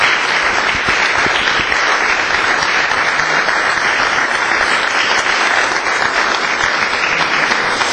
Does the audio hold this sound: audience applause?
yes